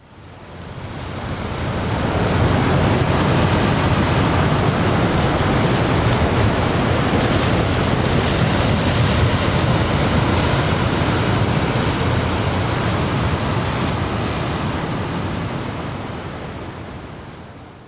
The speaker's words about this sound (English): Picture yourself gazing down at the sea on a moonlit night. The only sound is the waves crashing against the rocks below.